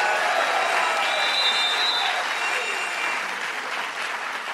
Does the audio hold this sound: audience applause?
yes